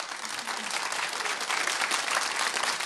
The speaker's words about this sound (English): And if the applause sounds a little bit more enthusiastic than on your average Wednesday, well, Robert Redford is here in the studio with us.